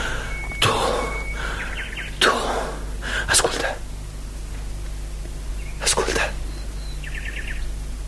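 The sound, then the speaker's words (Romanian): A nightingale sings in short, scattered phrases of thin whistles and quick rapid trills, fairly soft, broken up by occasional breathy rushes of noise over a steady low hum, as a wheel hums softly on the water. “Se aude privighetoare, se aude vuind încet o roată pe apă.”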